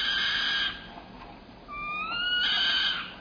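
A saw-whet owl, agitated or threatened, gives an eerie, high-pitched meow-like call: strained, wavering tones that fade, then return as a rising, whinnying slur, with no voices present.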